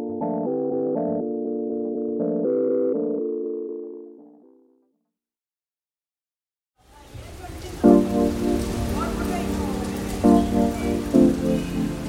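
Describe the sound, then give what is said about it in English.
A short run of sustained musical tones fades into silence, then a loud, dense, steady downpour of torrential monsoon rain in Mumbai, India rushes in, with tonal music still audible beneath it. “The city of Mumbai, like much of the rest of India, has been suffering torrential monsoon rains.”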